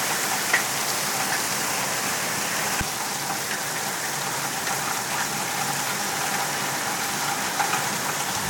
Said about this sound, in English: Really do love the rain. Even when we don't need it, I love the rain.